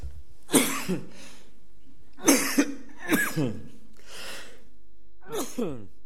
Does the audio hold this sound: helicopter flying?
no